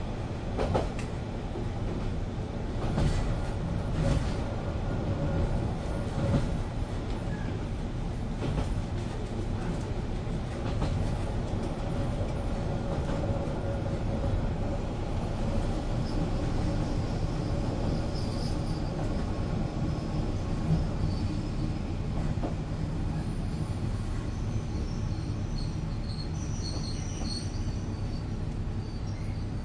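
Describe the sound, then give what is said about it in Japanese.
A steady, continuous rumble of a local train heard from inside a carriage as it approaches the next stop, Monaka, with low mechanical droning, faint rattles and occasional metallic squeals, no one speaking. “まもなくモナカです。折り口は右側です。お降りの方は乗務員のいる車両の前のドアをご利用ください。”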